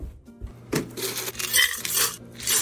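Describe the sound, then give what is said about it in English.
Ice cubes in ice water clink and rattle against the inside of a Stanley tumbler cup in a quick, irregular series of bright knocks and jingles, with no voices over them. “Personally, I've never been one for tap water, so I love this noise. So, you know, this is just ice water, and yet this is presented as, okay, I'm going to give you feedback on this.”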